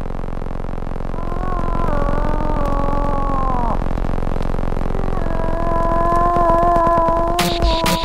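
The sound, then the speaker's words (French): Two long, drawn-out nasal moaning calls from a female moose seeking a mate in the autumn mating season in Quebec, loud, each wavering slightly in pitch, over a steady rough background hiss, ending with a brief sharp noise. “À l'automne, au temps des amours, le cri de la femelle orignale en quête d'un amoureux domine les autres sons de la nature québécoise.”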